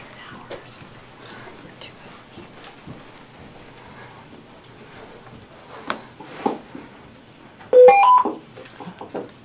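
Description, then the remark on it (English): A quick run of telephone dialing tones, three or four bright beeps in rapid succession, as a meeting tries to get a commissioner back on the phone line, ringing out loudly near the end after a stretch of quiet, muffled background noise and faint clicks. “We'll try to get Commissioner Fiskum back on the line”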